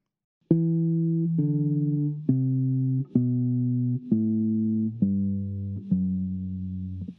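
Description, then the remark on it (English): A steady, buzzy synthesized tone plays a regular descending scale of eight evenly spaced notes, each held just under a second, stepping downward at a loud, even level with no talking. “Here's a nice example of a regular scale going down.”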